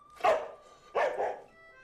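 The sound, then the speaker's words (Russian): A dog barks twice, two loud barks about three-quarters of a second apart, followed by a faint high whine as the sound fades, with no one speaking. “Про собаку никто ничего не говорил.”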